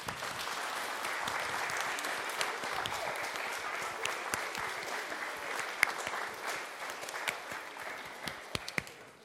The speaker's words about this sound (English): And I want you to give your teachers a big round of applause, which is like this. Big round of applause. Let me see. And now I want the congregation to stand up and give a big round of applause to the teachers for all the hard work that they've done.